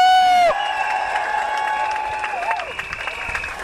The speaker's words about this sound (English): Comrades, brothers and sisters, welcome to Manchester! Now can we have a massive round of applause